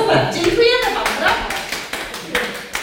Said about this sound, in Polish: I tak oto oklaski od trenerki